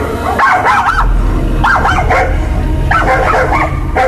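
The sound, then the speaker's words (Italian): A small dog made up as a clown barks in short, yappy bursts, three clusters of high-pitched yips over a steady low background rumble. “Oh mamma, mamma, guarda che carino quel cagnolino!”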